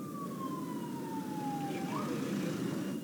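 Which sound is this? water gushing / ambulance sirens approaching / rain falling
ambulance sirens approaching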